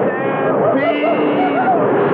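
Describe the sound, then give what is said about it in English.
A loud herd of stampeding cattle ridden after by cowboys, their bellows and lowing overlapping in a steady, unbroken roar over the continuous rumble of running hooves. “Stampede! The hell with the engine! Save the herd!”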